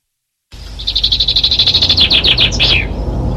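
A song thrush sings, a rapid run of repeated bright notes followed by a few quick, sliding phrases, clear and loud with no talking.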